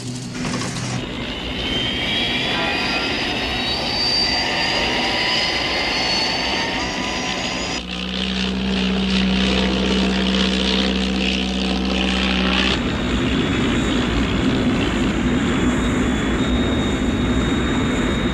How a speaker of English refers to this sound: As soon as you touch down, I'll open up with my jets. The slipstream should slow you down.